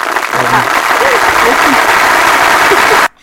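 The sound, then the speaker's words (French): A sound effect of a dense, steady crackling patter like hail striking a surface, loud and continuous for about three seconds before stopping abruptly, with faint voices murmuring underneath. “Alors, tu veux dire la grêle qu'il nous envoie ? C'est une sorte de grêle qu'on a.”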